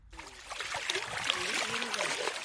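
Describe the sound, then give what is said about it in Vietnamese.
Water sloshes and trickles steadily, with a continuous splashing wash and faint voices murmuring in the background, as a 64-year-old woman pans for gold on the bank of the Mekong River at Nong Khai, northeastern Thailand. “năm nay 64 tuổi, đang đải vàng bên bờ sông Mekong, phía đông bắc Thái Lan.”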